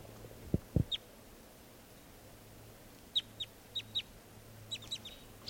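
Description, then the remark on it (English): A wild bird up in the trees near a net gives a series of short, high, sharp chirps, about seven notes in loose pairs, moderately faint over a quiet background. Two dull low thumps come just before the first call. “Recording the wild birds are still here, up in the trees near the net. This is one of them calling.”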